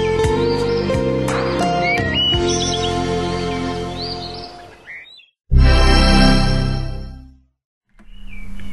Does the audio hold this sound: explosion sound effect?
no